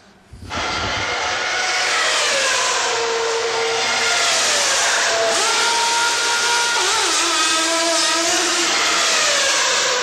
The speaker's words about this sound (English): Can you believe that? I mean, that car hardly stopped. All four tires got changed. Some refueling happened that quickly. You wouldn't have had time to count the number of people. There were 21 people in that pit stop.